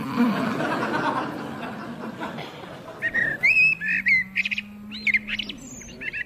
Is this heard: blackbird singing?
yes